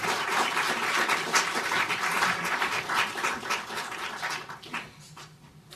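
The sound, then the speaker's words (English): A crowd at a Brookings event applauds to welcome Dean Yao Yang and the participants to the stage, with dense, steady clapping that holds fairly even for several seconds before thinning out and fading toward the end. “Without further ado, please join me in welcoming Dean Yao Yang to the stage and giving our participants a warm round of applause.”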